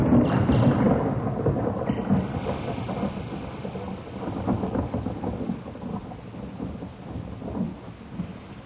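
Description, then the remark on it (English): Steady, heavy rain pours down without a break, a dense hiss over a deep rolling rumble like thunder. No voices, just the continuous downpour throughout. “How long have I been lying here? Listening to the rain.”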